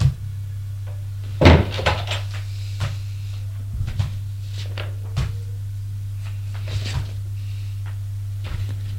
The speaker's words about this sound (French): Elle monte les escaliers de pierre jusqu'au premier étage. Frappe à une porte. « Entrez. » Elle entre.